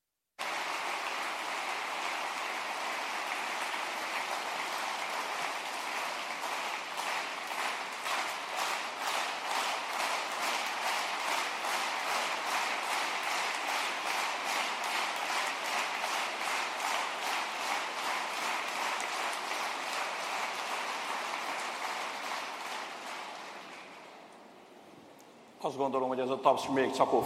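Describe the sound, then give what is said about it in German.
Sustained audience applause, a dense, steady wash of many hands clapping for about twenty seconds as Janosch Ader, President of the Republic of Hungary, walks to the lectern to give his testimony of faith. The applause fades out, followed briefly by the start of a voice. “Ich denke, dieser Applaus war eher für Ferenc Csako.”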